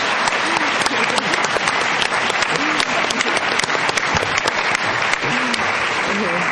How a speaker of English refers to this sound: Okay. So let's give a big round of applause to the panel for sharing thoughts with us tonight.